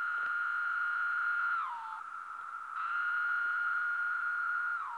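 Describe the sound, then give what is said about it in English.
Periodical cicadas sing in city park trees, a steady, loud, high buzzing drone that sags lower and softer midway through, then swells back to full strength; the singing is the males' mating call to attract females. No one speaks. “We're surrounded by the noise of cicadas, and we can see them everywhere.”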